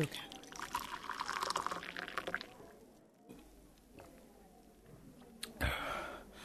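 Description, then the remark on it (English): Water pours into a glass in a steady, splashy stream for about two seconds, then trickles more quietly, with a brief sharp knock near the end. “Please pass me the water again. I'm really thirsty.”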